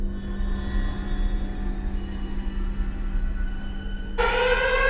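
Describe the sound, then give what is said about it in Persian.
A loud alarm siren suddenly blares in a hall near the end, its bright, steady tone cutting over a low constant hum heard before it starts. “صدای آژیر توی سالن.”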